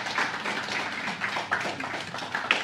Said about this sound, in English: Please, let's celebrate and clap for him.